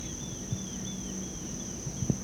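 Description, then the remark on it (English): A grasshopper stridulates in a thin, steady high-pitched buzz that runs unbroken through the whole moment, fairly quiet, with a few soft low thumps in the background. “That's a grasshopper.”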